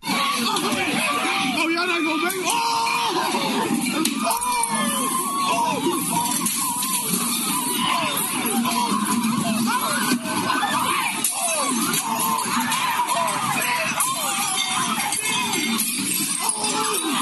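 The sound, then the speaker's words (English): Chaotic brawl in a Waffle House restaurant as the entire staff beats the man who started a fight with the cook: many voices shout and yell over one another without pause, loud and frantic throughout, with scattered sharp knocks and clatter mixed into the uproar. “This sounds like chaos, but it's the entire staff just beating the dog bleep out of the guy that started the fight.”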